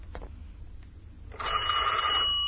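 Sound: telephone ringing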